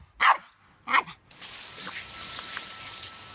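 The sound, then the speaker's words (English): A dog gives two sharp barks about a second apart, then a steady hissing spray of water from a garden hose starts and runs continuously to the end, as the dog is sprayed and bites at the water. “When she stops spraying, he barks as if to say, "Spray me again, spray me again."”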